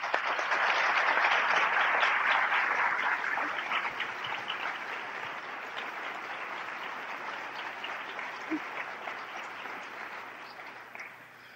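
A church audience at Wooddale applauds to welcome and support a woman invited up to tell of her plans, with dense, steady clapping that is loudest in the first few seconds, then eases slightly and continues evenly for about ten seconds before tapering off.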